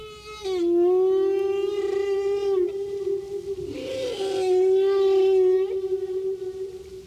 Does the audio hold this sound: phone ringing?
no